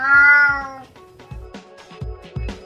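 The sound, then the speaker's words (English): A cat named Tubby lets out one loud, drawn-out meow, followed by softer low rumbles and faint thumping noises. “And no cat was harmed in the recording of this program. Isn't that right, Tubby?”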